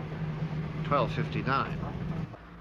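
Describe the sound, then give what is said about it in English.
A small Morris car drives into a village with a steady, low engine drone. Two short bursts of voice rise briefly over it, and the hum cuts away just before the end. “The Morris drives into a village.”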